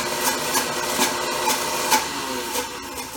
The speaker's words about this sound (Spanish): Lo vas colocando tu aceite. Y el aioli se va haciendo cremoso. Vale. Ahí vas oyendo cómo la licuadora va más lenta, porque ya se va poniendo cremoso. Con una consistencia diferente.